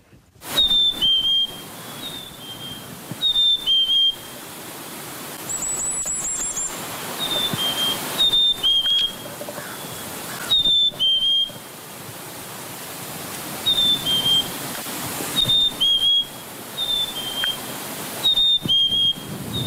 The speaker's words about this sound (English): And to bring us out today, we have the Chickadees Spring Song, sometimes known as the Phoebe call or the cheeseburger call. And this is a recording that I got from Zeno Canto by Jonathan Jongsma.